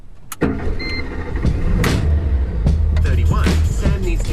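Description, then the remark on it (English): A hybrid car reversing: a steady low engine hum with a brief high electronic beep early on, plus whirring and clunking mechanical noises throughout. “Car's in reverse.”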